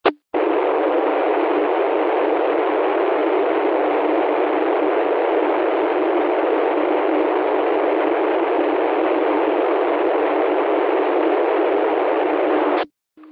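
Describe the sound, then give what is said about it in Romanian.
A steady, even rush of rolling wheel noise comes through a narrow radio channel for about twelve seconds, starting and cutting off abruptly, with no voices or changes in level. “Pare rău, da, e numai zgomot de roți.”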